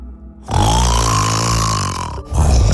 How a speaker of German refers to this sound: Für alle Frauen, die jede Nacht wütend wach im Bett liegen, wir Männer meinen das nicht böse. Wir schnarchen seit Jahrtausenden und zwar nur, um euch nachts vor wilden Tieren zu beschützen.